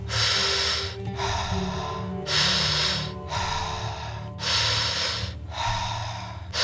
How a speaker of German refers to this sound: Schöne, zirkuläre, tiefe Atemzüge. Bauch, Brust, loslassen. Bauch, Brust, loslassen. Wie eine Welle, aktiv einatmen und passiv den Atem gehen lassen.